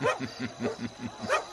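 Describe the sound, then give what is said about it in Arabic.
Several dogs, released to track a trail, bark in a quick, steady series of about seven sharp yelps, moderately loud, with no talking over them. “أطلقوا الكلاب ولنواصل تتبع أثرهم.”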